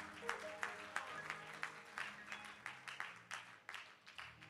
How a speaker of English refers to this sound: Why don't we just give God a hand clap of praise?